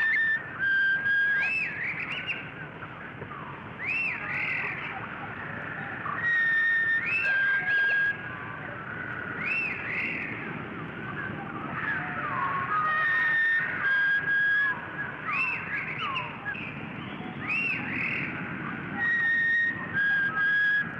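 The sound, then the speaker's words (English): Chickadee and phoebe songs from two birds in a yard, slowed down: long, pure whistled tones that glide and step between pitches, repeating in overlapping phrases over a steady hiss, with no voices. “And as they sound through the sound microscope.”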